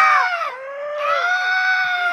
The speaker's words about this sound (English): So I managed to get this CD of seagulls screaming. Oh, God, it was awful. Seagulls screaming around the cliffs of Dover. And it's 20 minutes of it.